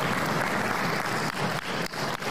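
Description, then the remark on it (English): A small group claps steadily and enthusiastically for a couple of seconds, a dense, even patter of applause at a Republican Party meeting celebrating the party's endorsement of President Trump, with no voices heard over it. “There is a very small but mighty crowd in that room.”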